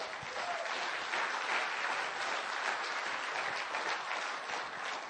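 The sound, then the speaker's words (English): An audience claps together in steady, dense applause that holds at an even, fairly loud level for about five seconds, with no voices standing out above it. “Honestly, I think Jesus should get a clap for that one alone.”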